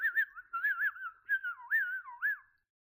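A person whistles a short, wavering melody, several connected phrases with smooth pitch glides and trills, clear and steady, with no other sounds before it stops abruptly.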